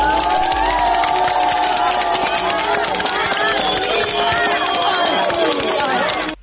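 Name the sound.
crowd applauding and cheering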